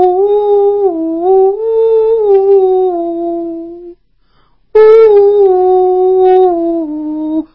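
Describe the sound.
A voice imitates a melodious bamboo flute, crooning two long, smooth wavering tones with gently sliding pitch, separated by a brief pause.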